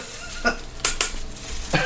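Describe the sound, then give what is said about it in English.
A few sharp, crackly bursts of the plastic wrapper of s'mores Pop-Tarts being crinkled and pulled open, coming in irregular bunches with no talking. “Oh, it's just the plastic.”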